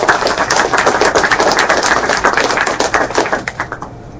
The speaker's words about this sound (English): So let's give a round of applause and welcome our panelists.